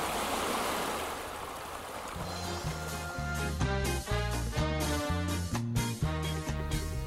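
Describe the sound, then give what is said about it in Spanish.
A steady rush of flowing stream water, Antarctic water sounds from the Universidad de Tierra del Fuego, fills the opening seconds, then a melodic instrumental line of repeated stepping notes enters and plays over the continuing water. “¿Quiere que escuchemos algo vinculado al agua? ¿Sí? Bueno, escuchemos. Sonidos antárticos.”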